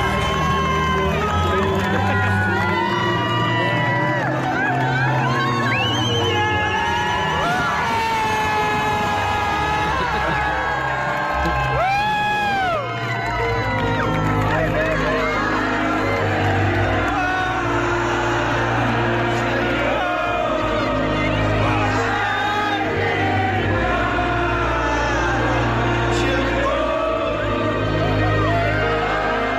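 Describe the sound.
A huge stadium crowd at a concert at Wembley Stadium cheers continuously for about thirty seconds as a man proposes on one knee, a loud, dense roar with scattered high whoops and rising shouts swelling over a steady low rumble of voices.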